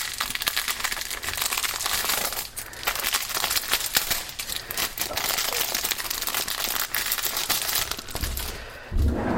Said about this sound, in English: We're gonna open this bag. We're gonna take the plastic off of it, and we're going to open the garbage can. I'm gonna take the plastic off this bag and throw it away.